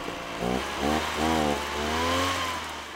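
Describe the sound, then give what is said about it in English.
A backpack blower's small engine drones steadily over a broad hiss of rushing air as it blows out pesticides that kill mosquito larvae, its revs surging and dipping several times in a whining, buzzy pitch, with no voices. “It's basically what it sounds like, a backpack-like device that blows out pesticides that kill mosquito larvae.”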